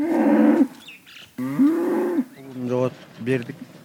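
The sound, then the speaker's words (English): About 10 head of cattle, kept by a herder in a barnyard in a village below the snow-covered Tian Shan Mountains, moo several times in a row: loud, drawn-out lowing calls with rich harmonics, separated by brief pauses, with no talking in between. “47-year-old Alim Saltavat keeps about 10 head of cattle here.”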